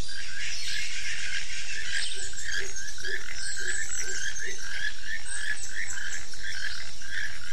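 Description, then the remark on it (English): A toucan gives a rapid series of hoarse, croaking calls in a steady rhythm, set against a constant high buzz of insects and other birds. No one speaks. “Tell me, how does a toucan sound?”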